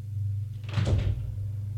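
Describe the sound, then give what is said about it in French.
A man opens a door with a single brief scraping whoosh lasting about half a second, set against a steady low hum, with no voices. “Il ouvre.”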